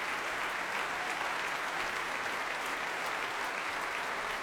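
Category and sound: crowd, concert audience applause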